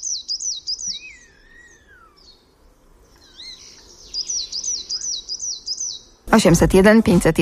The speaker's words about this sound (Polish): No to któż nam teraz dzisiaj rankiem śpiewa? No, sikorka sosnówka. Tak jest.